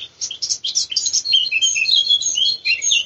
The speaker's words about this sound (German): Das ist die Mönchsgrasmücke, da drüben tut der Zilpzalp rufen.